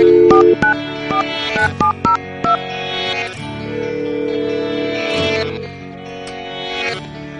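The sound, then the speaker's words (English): A quick run of touch-tone telephone dialing beeps as The Morning Disaster radio show calls its mobile unit, about eight short, clear tones in a brisk rhythm, followed by a steadier, humming line sound. “Let's call him with the guys.”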